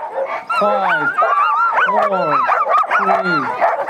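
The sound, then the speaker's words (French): A pack of sled dogs at the start of the Yukon Quest race barks and yips excitedly all at once, their high, rising cries overlapping in a loud, continuous chorus. “Nicolas part avec moins de chiens que ses concurrents, mais il est boosté à bloc.”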